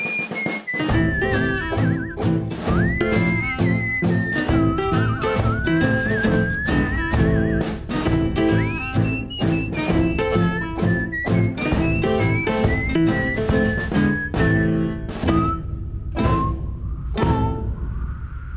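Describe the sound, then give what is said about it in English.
A person whistles a sliding, wavering melody over a steady, dense musical backing with a regular thumping beat, the whistle loud and prominent throughout. “First heard his whistle on the Chilkoot Trail.”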